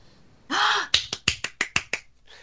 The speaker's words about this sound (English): I was clapping.